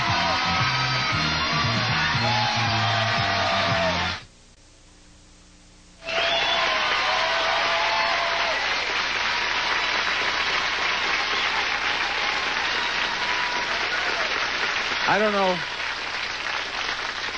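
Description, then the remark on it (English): The studio audience of The Price is Right game show bursts into sustained, loud applause with scattered whoops and cheers after a brief musical sting and a short pause, the clapping continuing steadily to the end. “I don't know what that applause is for.”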